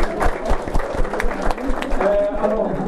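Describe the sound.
An audience claps steadily in a dense, continuous patter lasting a few seconds, with murmuring voices and a brief tonal voice-like sound blended into the applause toward the end.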